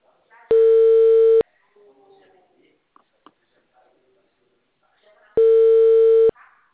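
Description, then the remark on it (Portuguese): Two long, steady ringback tones of an outgoing phone call, each about a second, with a gap of several seconds between them filled by faint, indistinct background sounds. “chamando agora.”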